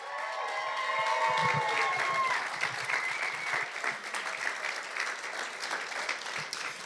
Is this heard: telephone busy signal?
no